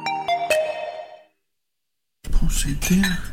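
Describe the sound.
Three quick, bright clinks of dishes ring out as a dishwasher is loaded, their tones lingering and fading. A short silence follows, then a voice starts talking.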